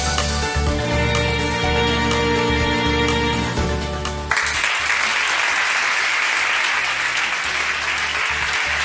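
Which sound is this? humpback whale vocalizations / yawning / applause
applause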